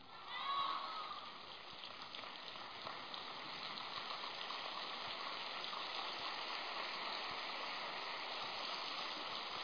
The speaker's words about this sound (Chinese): 这个掌声有点像下毛毛雨一样的。